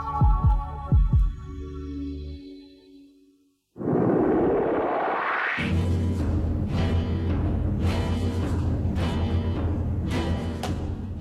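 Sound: heartbeat pulse sound effect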